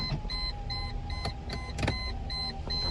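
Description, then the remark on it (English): An electric car window whirs steadily as it rolls up to keep the rain out, a continuous motor hum inside the vehicle over low engine rumble, with occasional sharp taps along the way. “All right, let me roll up the window again.”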